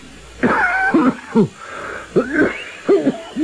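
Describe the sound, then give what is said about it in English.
A series of harsh, rasping coughs coming in about five ragged bursts with hoarse, strained wheezing between them, and no talking. “That's a wicked cough, Professor Valdemar.”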